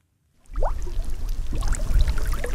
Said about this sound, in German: Es blubbert auf dem sonst so stillen Stausee Olsberg bei Paderborn.